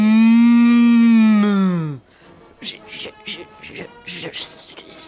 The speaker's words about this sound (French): Oh, j'entends. J'entends les vaches se rapprochent.